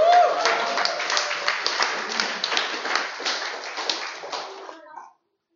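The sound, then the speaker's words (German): An audience applauds a speaker with dense, steady clapping that holds at a fairly even level for about five seconds, then stops abruptly. No one speaks over it. “Applaus für Jonas.”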